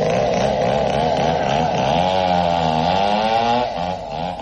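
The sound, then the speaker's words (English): A chainsaw engine runs loud and close, its pitch rising and falling as it revs continuously for several seconds, easing off slightly near the end. “Frobisher from next door is Jack Nicholson with a chainsaw.”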